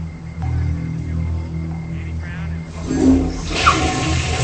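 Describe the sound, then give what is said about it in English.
A low steady hum with faint muffled voices, then a toilet flush surges up loudly in a bathroom, followed by rushing, hissing water from a running sink faucet. “She flushes the toilet and turns the sink faucet on”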